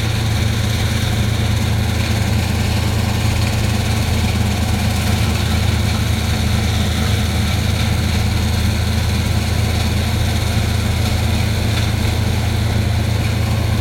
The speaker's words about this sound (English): It's a loud truck that sounds like it eats things.